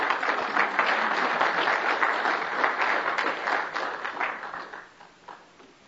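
A crowd claps steadily in a dense, sustained round of applause that holds for several seconds and then gradually fades as it winds down.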